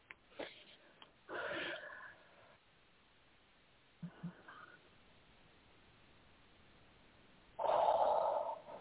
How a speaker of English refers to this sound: Okay. Good breath. I'm breathing with you. Thanks.